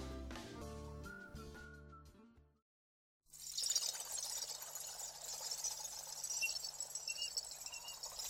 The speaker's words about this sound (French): Fermez les yeux. Partez en montagne. Entendez-vous l'eau espiègle des ruisseaux dévaler en riant les creux des roches noires?